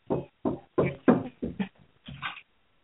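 Someone knocks on a door in a loose, uneven series of about six dull thuds over a few seconds, with a short pause before a final knock. The knocks are moderately loud and nearby.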